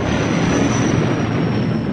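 The Millennium Falcon drops out of hyperspace near the coordinates where Alderaan once existed, a loud, steady, dense roar that fills the whole two seconds, with a thin high whine riding on top and no voices.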